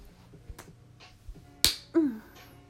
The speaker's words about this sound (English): You take my hand away, and you give me a playful little face slap.